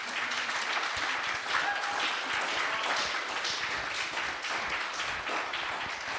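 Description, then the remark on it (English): An audience at a church panel breaks into steady applause for the panel crew as the panel wraps up, a dense, sustained wash of many hands clapping at an even loudness for several seconds without letting up. “So I think we should wrap up, but can we just give this amazing crew up here a round of applause?”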